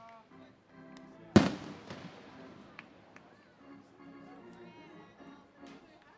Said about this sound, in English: Honestly, I'm loving the fireworks because it creates a great sound effect.